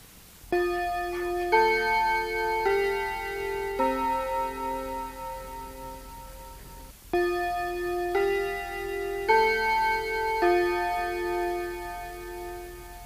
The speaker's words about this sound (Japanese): というのが、30分の時になるチャイムの音でございました。